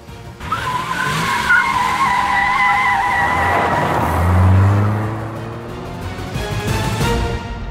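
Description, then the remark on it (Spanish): A driverless car's tires squeal in a long, loud skid, followed by the engine revving hard as the vehicle speeds off and fades slightly. “Creo que el coche no tenía conductor.”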